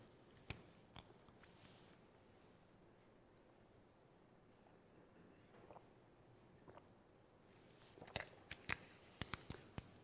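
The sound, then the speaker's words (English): Someone sips water, with soft slurps, swallows and small mouth clicks scattered across a quiet background, clustering toward the end. No one speaks. “While you do that, I'm going to sip some water.”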